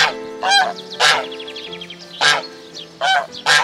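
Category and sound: bird, geese honking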